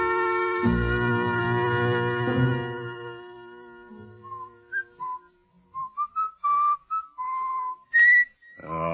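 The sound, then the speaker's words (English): A person in a jail cell whistles a tune in short, clear melodic phrases, starting over a fading low musical drone, then continuing alone with distinct separate notes and brief pauses between them. “Would you mind stopping that eternal whistling of yours?”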